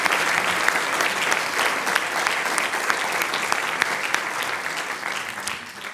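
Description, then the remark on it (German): A large audience applauds steadily for several seconds for guests from the Czech Republic, a dense wash of many hands clapping that stays loud throughout and eases slightly toward the end. “das ist euer Applaus, unsere Gäste Radok aus Tschechien”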